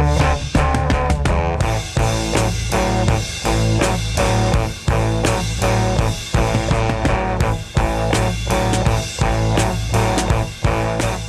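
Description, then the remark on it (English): A band's drums, bass and guitar heard together from one recording track: steady, punchy drum hits, a deep sustained bass line and bright guitar chords, loud and continuous with no voices over the music. “Let's hear the band together, drums, bass and guitar.”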